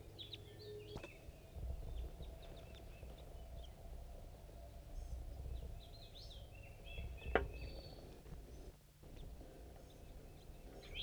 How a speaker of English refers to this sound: Birds are chittering above the nest site.